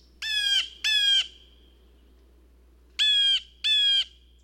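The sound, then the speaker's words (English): Birds squawk loudly right outside a window in two paired bursts, each harsh, harmonic-rich call lasting about a third of a second, with a quiet pause between the pairs. No one speaks. “me to appreciate the little things, like the birds right outside of our window.”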